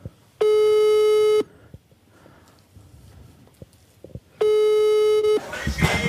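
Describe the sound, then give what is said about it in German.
An outgoing phone call rings back with two steady, buzzy electronic tones, each lasting about a second, separated by a roughly three-second pause, over faint background noise and rustling. “Ich rufe jetzt an, das klingelt schon.”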